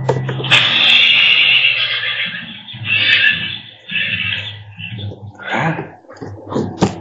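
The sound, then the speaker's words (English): A person imitates a horse neighing during a tabletop role-playing game combat, producing a long, loud, wavering whinny, followed by a few shorter breathy, snorting bursts at the end. “Make the horse noisy.”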